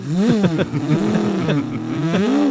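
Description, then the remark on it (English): A voice mimics a hot rod engine revving, with several rising and falling vroom sweeps in quick succession, loud, with no words spoken. “Did he go out on his hot rod? Yeah, he revved it the whole way.”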